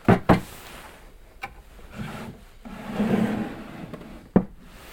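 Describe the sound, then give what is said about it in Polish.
A drawer of an oak wooden table is pulled open, with sharp knocks at the start, a scraping, rubbing slide of wood on wood, and a final thud as it stops. “Też wyciągałam z tej szuflady różne rzeczy, o których opowiadałam, natomiast jest jeszcze druga. Możemy zobaczyć, jak się otwiera.”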